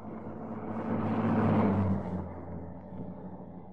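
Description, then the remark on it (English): A post office van's engine rumbles closer, its low drone swelling to a peak midway before easing off slightly as it continues, with no voices present. “As the car stopped, the first post office van was already approaching.”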